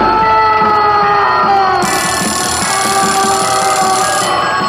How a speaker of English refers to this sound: It's just about morning. Right away, there's the alarm clock ringing or buzzing, and people mumbling or grumbling about not getting enough sleep and tumbling out of bed.